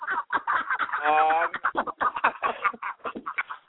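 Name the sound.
chickens clucking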